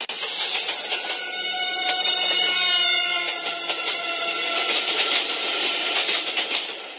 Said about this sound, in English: Train tracks. And the yeah, Doppler effect. Yeah. Doppler shift, sure. Yeah. That clicking noise is the noise of train wheels